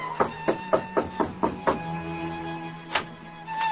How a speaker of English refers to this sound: Just knock on the door, monsieur.